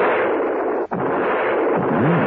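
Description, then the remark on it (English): Loud, dense rifle fire crackles and roars almost nonstop, with a brief break near the middle before the barrage resumes, as Mrs. Peel shoots a rifle after crawling through a window. No one speaks. “who, aroused by the shooting, came running from the house”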